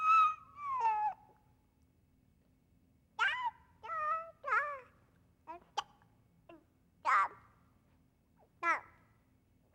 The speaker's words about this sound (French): j'ai voulu ajouter le babil des enfants au langage.